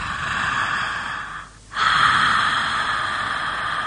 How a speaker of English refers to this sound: So you can start hearing why it's called snoring breath. Yeah, now I can feel the warmth on my hand as well.